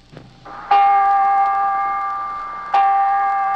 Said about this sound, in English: Hear those bells over there, Mr. Newman? Those are the bells in the tower at the junior high school.